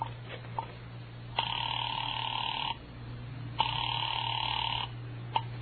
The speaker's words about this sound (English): I dialed Bradshaw 7711 and waited.